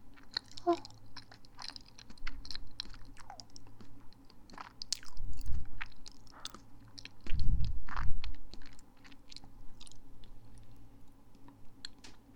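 Wet chewing of a soft, sweet, slightly overripe banana, with a steady run of small smacks and mouth clicks and a couple of heavier, muffled bites partway through, with no talking.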